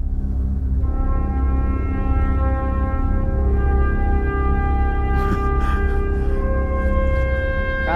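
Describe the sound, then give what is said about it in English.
Loud music played by the neighbours, heard on getting out of a car just pulled into a garage: a steady droning wash of sustained, layered tones that holds for the whole stretch, with a few brief noisy bursts partway through and no one speaking. “That's the neighbours. They're off in a music on.”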